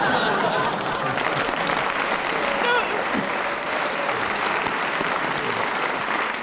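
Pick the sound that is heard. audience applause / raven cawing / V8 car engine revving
audience applause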